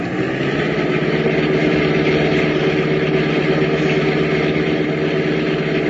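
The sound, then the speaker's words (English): A speeding car doing about 50 drives past, its engine droning loudly and steadily, a low harmonic rumble holding an even pitch for the whole stretch, with no voices over it. “Man, what a car.”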